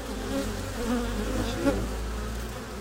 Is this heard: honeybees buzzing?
yes